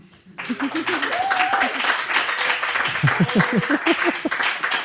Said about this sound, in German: Und das Publikum des Chaos Computer Clubs Berlin, das vielleicht mal ein bisschen Lärm und Geräusch machen kann.